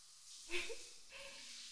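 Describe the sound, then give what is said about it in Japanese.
A shower sprays in a soft, continuous hiss, faint and steady, with a brief louder surge early on before settling back to an even wash of water. “シャワーも一緒だね。”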